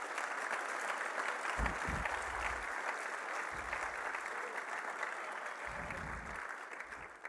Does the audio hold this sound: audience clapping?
yes